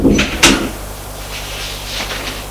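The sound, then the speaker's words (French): A door swings shut with a soft latch click and a dull thump as a woman enters and closes it behind her, followed by quiet room tone with faint rustling for a couple of seconds. “Elle entre, elle ferme la porte.”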